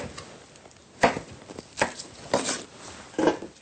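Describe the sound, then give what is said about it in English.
A knife cuts peeled gailan diagonally on a cutting board: four firm, uneven strokes with lighter taps in between, fairly quiet, with no one talking. “Then cut diagonally.”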